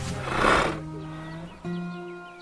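A horse named Griff gives a loud, breathy snort, followed by a steady tonal hum with faint bird chirps in the background.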